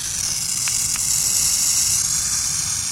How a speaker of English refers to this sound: Yipes! The hiss of a burrowing owl sounds just like a dangerous rattlesnake, which is a great way to scare off potential predators.